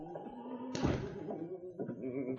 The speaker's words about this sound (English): A few moments later, the door of the office opened